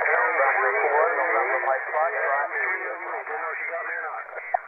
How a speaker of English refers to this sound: Okay, nice little noisy pileup. Try again. November 4, November Mike Foxtrot. And for NMF, two or three stations calling along with the alligators. It gets a little tough to hear sometimes.